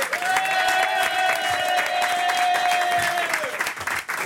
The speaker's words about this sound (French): Applaudissements pour Virginie Lemoine et Stéphane Corbin.